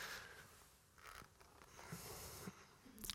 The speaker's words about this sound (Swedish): Nu tog han en klunk med vatten.